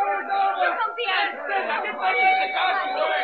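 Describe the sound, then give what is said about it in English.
A crowd of onlookers gathered around a dead body murmurs in a steady, continuous babble of overlapping voices. No single speaker stands out, and the sound holds at an even, moderate level throughout. “See that he gets through this mob, will you?”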